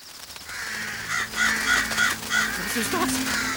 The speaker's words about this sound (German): Die Krähen stürzen sich auf ihn. Oh. Das ist zu Boden gegangen. Oh. Und jetzt halten sie auf ihn ein.